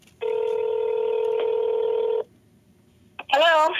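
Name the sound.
telephone dialing and ringing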